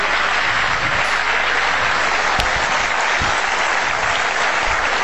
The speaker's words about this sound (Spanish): Vamos a aplaudir. Vamos a aplaudir, hermanos.